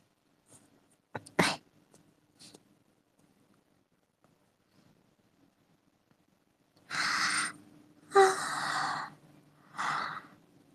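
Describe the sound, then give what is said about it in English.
Someone yawns loudly and breathily, with a long drawn-out exhale followed by a couple of shorter sighing breaths, after a few faint clicks in near silence. “I'm yawning, but I don't know. Nothing is really coming off of it.”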